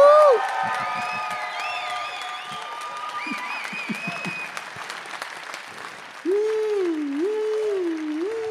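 A crowd bursts into sustained applause, loud and steady, with high whoops and cheers rising over the clapping and a long, wavering whoop carrying through the final seconds.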